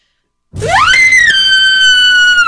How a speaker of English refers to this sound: let's hear your scream.